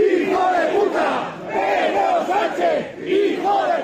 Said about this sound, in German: Sanchez, du Hurensohn, beleidigten mehrere hundert Franco-Anhänger in der Nähe des Friedhofs den spanischen Ministerpräsidenten.